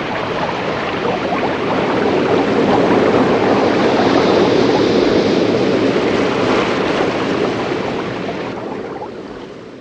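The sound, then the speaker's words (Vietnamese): The Splash river roars in a dense, unbroken rush of water, loud, swelling slightly in the middle and easing a little toward the end, with no voices present. “Rồi không ai nói gì nữa, và sự im lặng giữa hai bác cháu gần như hòa vào tiếng ầm ầm vang dội không dứt của con sông Splash.”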